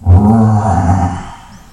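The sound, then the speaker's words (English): A huge tiger in a forest gives a single deep, loud roar, rumbling, swelling quickly and then fading out over about a second and a half, with no talking around it. “Just like if a person is walking through a forest, and he is walking very peacefully and happily, and suddenly he hears a roaring sound in the forest.”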